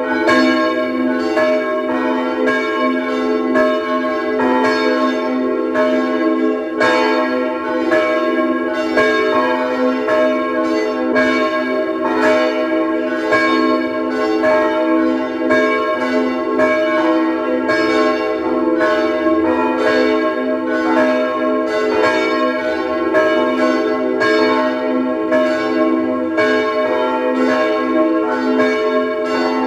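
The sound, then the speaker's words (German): Several church bells of the Neulerchenfeld parish church in Vienna's 16th district ring together at 12 noon in a steady, overlapping peal, loud and continuous with rich sustained harmonics and repeated strikes throughout, with no voices. “Sie hören die Glocken der Pfarrkirche Neulerchenfeld im 16. Wiener Gemeindebezirk.”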